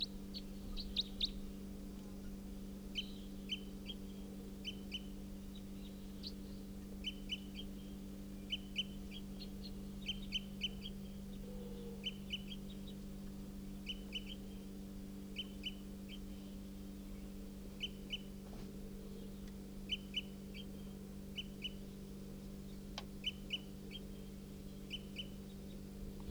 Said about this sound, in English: Yep, here's that wild bird. It's giving flight calls, type 4.